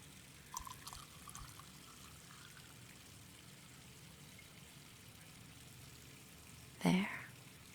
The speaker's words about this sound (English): Okay, now let me pour you a drink.